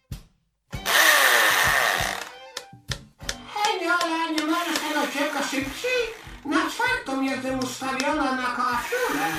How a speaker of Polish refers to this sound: Uważaj, bo tero będzie hałas, bo wiertarą muszę tu wjechać.